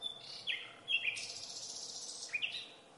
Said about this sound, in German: oder eine Nachtigall, die singt auch in der Nacht.